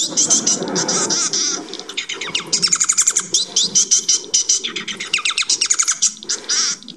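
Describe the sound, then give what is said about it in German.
A Bengalese finch sings a fast, continuous song of high, buzzy chirps and rapid repeated syllables, with short rhythmic bursts strung together over several seconds. “Vogel, der bengalische Fink oder japanisches Möwchen heißt das.”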